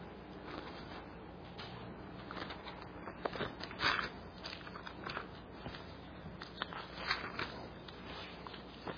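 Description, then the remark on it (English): Thin paper pages of a Bible being turned to Ecclesiastes chapter 9, giving a steady soft rustle broken by a few sharper crackling flips. No one speaks. “So long I've been back into using a paper Bible, now I get to turn pages.”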